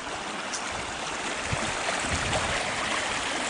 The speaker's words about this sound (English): Creek, as you can see, runs pretty quickly.